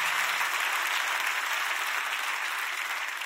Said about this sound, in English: Clap your hands by faith and receive that, what I just told you. Come on.